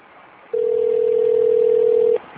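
A telephone rings once over a phone line, heard as a single steady electronic tone lasting under two seconds against quiet line hiss, with no one talking.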